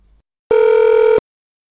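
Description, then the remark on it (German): A telephone dial tone as someone calls an ambulance: one steady, mid-pitched electronic tone that holds evenly for under a second, then cuts off abruptly, with no voices over it. “Ich rufe im Krankenwagen an.”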